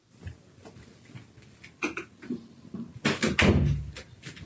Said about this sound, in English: I just needed to close the door because there was sound coming in from the other room.